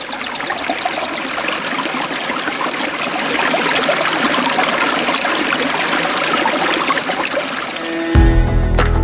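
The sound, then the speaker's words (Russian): Steady rushing of a river in Altai Krai, a dense continuous babble of flowing current, with a low rumbling hum coming in at the very end. “А если к птичьим голосам добавить шум реки, этими звуками можно наслаждаться.”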